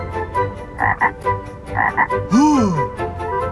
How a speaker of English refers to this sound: That's a frog!